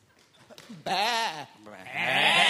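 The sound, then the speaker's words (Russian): A short, faint sound leads into two loud, quavering bleats from rams, the second longer and harsher than the first. “Начнем с переклички. Первый баран. Второй баран. Бас-баран. Бэк-бараны.”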